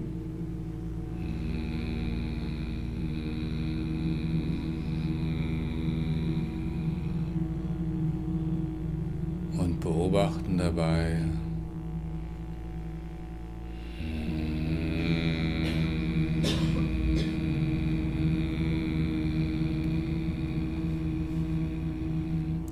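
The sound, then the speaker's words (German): Several voices hum together in a low, steady drone while exhaling, letting the chest vibrate, held for long stretches with a brief wavering break in the middle before the humming resumes, full and even. “Wir brummen etwas beim Ausatmen.”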